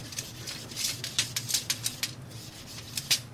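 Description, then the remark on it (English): A steady low motor hum from a kitchen extraction fan drones throughout, while a series of sharp, irregular clicks and taps rises above it at a fairly quiet level. “Yeah, and the hum that you hear in the background, that's our extraction, that's the motor for it, and this is the soundtrack to our lives.”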